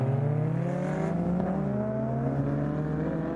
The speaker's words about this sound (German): Eine Rennstrecke im Nordosten von Beijing. Alle paar Sekunden rast ein Auto vorbei. Die Rennstrecke ist eingezäunt, hinter Betonpollern steht eine verwaiste Tribüne.